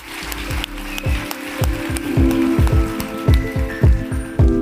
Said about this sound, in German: Ich möchte mich ganz herzlich bei dir bedanken und jetzt machen wir, ja, einen herzlichen Applaus, bitte.